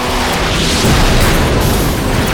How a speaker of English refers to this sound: I didn't see, but I heard and felt, the explosion. The heat was searing.